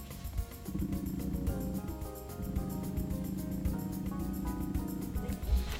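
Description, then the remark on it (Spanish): A smartphone vibrates with a steady, low buzzing hum that keeps going for several seconds, its faint rhythmic pulses running throughout, with no one speaking; the vibration comes during touch exploration. “Y a ver si se alcanza a escuchar la vibración, escuchen.”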